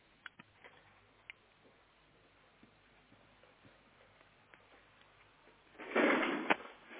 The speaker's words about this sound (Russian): Открыл ящик? Да.